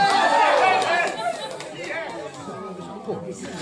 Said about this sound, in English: That's a bit odd because I could even hear the defendant in the crowd. Cheering herself. Well, why wouldn't she?